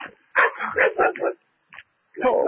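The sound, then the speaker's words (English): A dog barks in a quick run of four or five loud, sharp barks, then gives a brief yip after a pause and starts barking again. “Why are you barking at me?”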